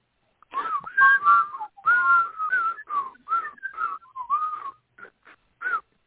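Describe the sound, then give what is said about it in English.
Someone whistles a lively, warbling tune alone, with quick pitch slides and short phrases broken by brief pauses, ending in a few clipped notes; clear. “It's time now, I suppose, for the whistler. I want to hear some whistling.”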